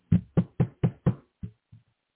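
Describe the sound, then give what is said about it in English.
Seven hollow knocks on a wooden surface, five quick, evenly spaced raps followed by two softer, slower ones that trail off. Clear, with no talking. “No, I didn't knock on wood. I did, but not for, you know, what people will say, knock on wood and this is what will happen.”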